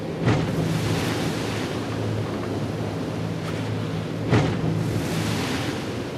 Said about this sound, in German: Wir haben hier ca. 3 Meter Welle. Dann passiert es auch immer wieder mal, dass der Bug auf die Wasseroberfläche knallt. Anstrengende Bedingungen für Material und Crew.